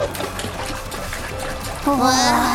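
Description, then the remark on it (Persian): A stone skips seven times across water with a quick series of light, splashy taps over a running-water background, then a voice rises over the water near the end. “کاچان چند بار روی آب سرخو؟ 7 بار.”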